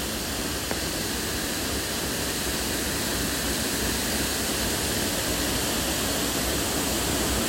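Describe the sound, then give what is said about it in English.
A powerful waterfall roars, a dense, unbroken rush of water crashing down that holds steady and loud throughout, with no voices or other sounds breaking through. “I think it's just lovely to revel in the power of the water that's crashing down around me, in comparison to the calm, babbling brook.”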